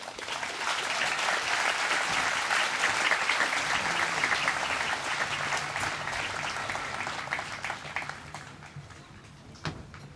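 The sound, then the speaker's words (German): Sustained applause from a conference audience welcoming a speaker onto the stage, a dense steady clatter of many hands clapping that holds strong for several seconds, then gradually thins and fades toward the end, with no talking over it. “Begrüßt sie mit einem riesigen Applaus,”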